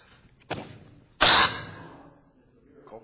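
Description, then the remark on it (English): Two harsh coughs: a shorter one, then a louder, rougher cough that trails off into breathy noise, with faint room sound around them and no talking. “I've been coughing so much the last few days. That's the first time I've had to do it in front of everybody.”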